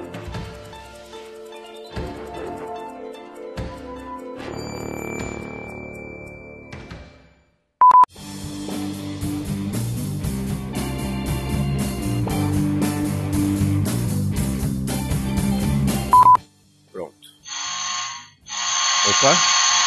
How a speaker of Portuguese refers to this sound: Alguém tocou sua campainha aí